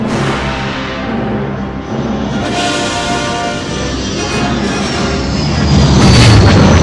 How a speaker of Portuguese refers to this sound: Barulho de tiros a laser, que eu não sabia que era laser, mas eu tinha certeza que era laser. Uma pequena nave entra em cena junto com um som grave vibrando. Cara, mas bota grave nisso, bicho. Muito grave. Vibrando meus ossos, minhas entranhas.